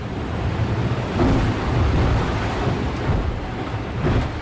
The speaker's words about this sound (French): C'est le troisième lever de jour dans ce Vendée Globe. Il y a 30 nœuds de vent, 4 mètres de creux. Mon bateau remonte au vent et tape dans la vague.